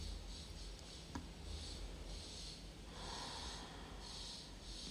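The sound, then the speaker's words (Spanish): Slow, deep breaths drawn in and let out through the nose during a guided breathing exercise, steady, with a soft airy rush rising and falling in long cycles and no talking. “Repite un par de veces más estas respiraciones profundas. Y en la última exhalación, soltar el vientre.”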